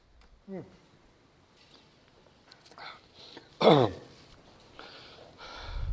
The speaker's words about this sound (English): Hope that cough isn't Rona coming to get me.